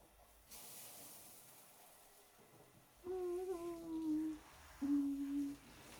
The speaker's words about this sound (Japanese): さっきから思ってたんですが、このシャワーヘッド結構強めにお湯が出てくるので、マッサージにもなって気持ちいいですね。